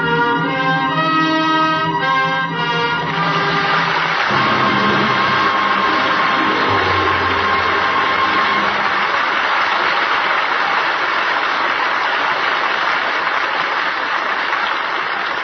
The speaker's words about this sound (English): That well-deserved applause invites a curtain call.